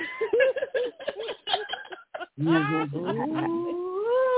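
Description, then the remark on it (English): Choppy laughter and chatter give way to a cat's long, low, rumbling purr or growl that rises in pitch and holds steady until the end, fairly loud. “Somebody over there purring.”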